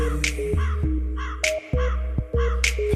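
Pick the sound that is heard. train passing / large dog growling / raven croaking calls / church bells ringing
raven croaking calls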